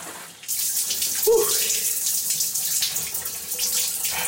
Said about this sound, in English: Because, sorry, I gotta rinse my face real quick. Alright, shower sound is leaving in 3, 2, One.